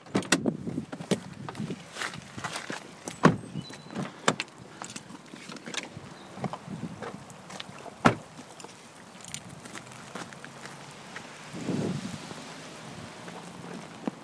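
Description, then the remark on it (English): A middle-aged man running through rain, trying not to get wet, heading up a flight of steps to a castle wall: irregular, sharp footfalls and scuffs over a steady hiss of rainfall and gusting wind, with a few louder thuds along the way and no voices. “So you can hear a middle-aged man running through the rain, trying not to get wet.”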